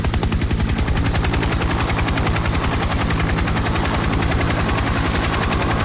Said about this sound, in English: In order to deliver the most effective and immediate traffic updates here on 98FM, I've bought a helicopter. It's called the Big Ride Chopper. Let's get her going here.